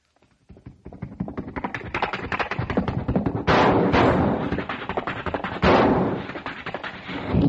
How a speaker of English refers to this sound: Here comes the same horse back into town. Cowboy's on his back with a Colt 45, shooting.